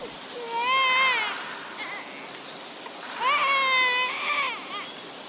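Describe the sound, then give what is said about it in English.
A baby cries at a cemetery in two long, high-pitched wails with a short, quieter whimper between them. The loud, strained cries rise and fall in pitch, and no one talks over them. “It's not good to hear babies crying at cemeteries.”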